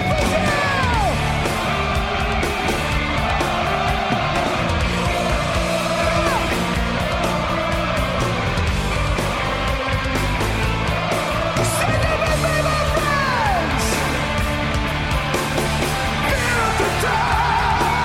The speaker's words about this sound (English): Their live shows are impeccable, and the crowd response equals that, as shown by this clip from their live show in Rock in Rio.